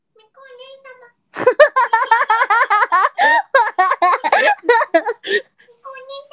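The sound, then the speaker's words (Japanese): A person imitates a cat, starting with a soft, high meow, then breaking into a loud, rapid run of chirpy mewing syllables before trailing off into another faint meow. “もう声完コピできるようになった。”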